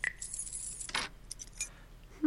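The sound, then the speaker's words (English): Keys jangle as they are handed over, in a few short, bright metallic bursts, moderately loud, with brief pauses between the clinks and no one speaking. “Give me your keys.”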